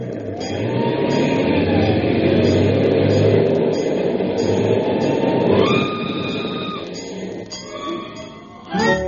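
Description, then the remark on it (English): A loud fire engine sound effect for the show Let's Pretend's Puss in Boots story: heavy engine rumble mixed with sustained siren tones that shift in pitch, then briefly thins out before surging back at the end. “All right, Sybil, a fire engine it is.”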